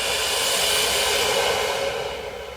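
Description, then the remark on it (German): A long, deep exhalation during a guided breathing exercise, a steady breathy rush of air lasting a couple of seconds before tapering off slightly at the end. No one speaks. “Und wieder aus.”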